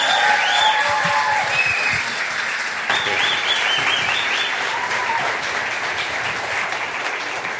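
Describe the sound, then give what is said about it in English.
The audience of Harbor church applauds and cheers loudly to welcome a guest, a steady wash of clapping with whoops and shouts rising above it throughout, holding strong for several seconds. “So today I'm going to practice and I'm going to say, give him a Harbor welcome.”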